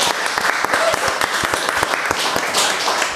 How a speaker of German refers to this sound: Ein Applaus für unsere Weinprinzessin.